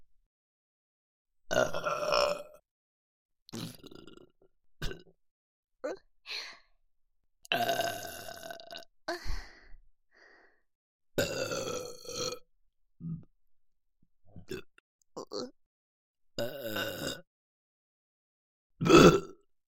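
A series of loud burps, roughly a dozen, some long and drawn out and others short, separated by brief silent gaps and ending with one forceful belch.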